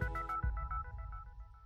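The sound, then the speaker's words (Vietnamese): A telephone rings in Times Square, New York, with a quick run of bright electronic tones repeating in a short melodic pattern, fairly loud, over a low rumbling background. “Nếu đang lang thang ở quảng trường thời đại và nghe tiếng chuông điện thoại reo nên tôi bắt máy.”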